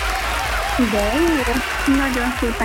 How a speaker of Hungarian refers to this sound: Ezzel a tapsal pedig titeket ünnepelünk.